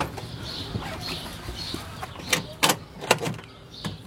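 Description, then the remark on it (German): A 50-cent coin drops into a coin-operated chicken feed dispenser, giving several sharp metallic clicks and clunks in quick succession, with faint clucking of chickens in the background. “Ah, jetzt ist das Geld drin.”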